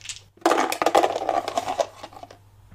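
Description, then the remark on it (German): Dice rattle and tumble across a hard tabletop in a quick burst of clattering knocks that thin out and settle after about two seconds. “Okay, dann Würfel lügen nicht.”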